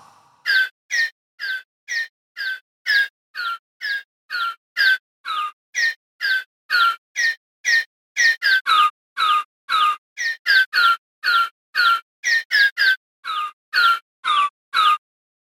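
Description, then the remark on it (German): A single chirpy bird call repeated about two dozen times in a steady rhythm, each copy shifted to a slightly different pitch and played as notes on a sampler keyboard, bright with no talking. “es war so naheliegend, doch einfach mal die eine Vogelstimme dann auf verschiedene Tonhöhen zu bringen”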